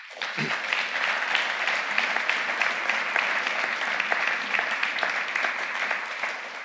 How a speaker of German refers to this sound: Gib ihr mal einen Applaus.